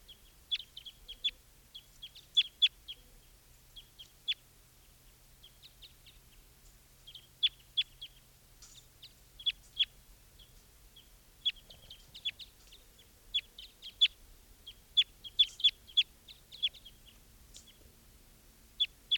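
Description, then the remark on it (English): Two wild birds near decoys give short, high chirps in scattered clusters throughout, some quick runs of several notes, over a low, steady background hum. No one speaks. “Five ten here, and there are two wild birds here, looking down at the decoys.”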